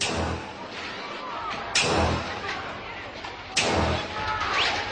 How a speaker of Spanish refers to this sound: Hubo manifestaciones, precisamente por la muerte de ese estudiante un par de días antes, y sonaban así los disparos de los botes de humo.